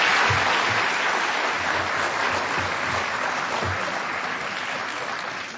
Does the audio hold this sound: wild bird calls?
no